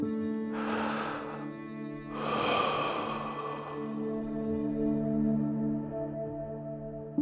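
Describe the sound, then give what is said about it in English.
A slow, deep breath drawn in and then released, two long airy whooshes over a soft, steady musical drone. “One thing that you might have heard a lot of is this idea of doing some deep breathing, and there is some value to doing that, which is to slowing down the way you breathe and really making sure you're breathing from your abdomen”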